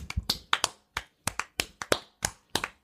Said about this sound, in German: Dann leg kurz dein Mikrofon zur Seite und jetzt klatschen wir kurz. Wir haben es vergessen, sind wir den Leuten schuldig.